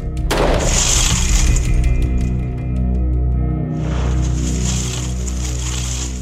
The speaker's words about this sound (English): All right, range is hot. We had Officer Branion shoot the door again.